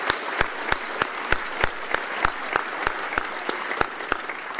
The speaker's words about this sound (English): So for them to carve out this time to come together, please give them another great big round of applause and thank you.